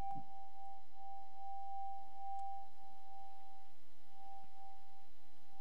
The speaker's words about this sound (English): So there's the Tibetan bell